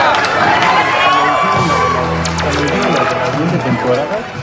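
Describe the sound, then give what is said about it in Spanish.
A loud crowd cheers and whoops while a burst of applause breaks out, with excited voices shouting over the clapping throughout, as an audience applauds a correct guess of Homer Simpson in a character-guessing game. “¡Un aplauso enorme!”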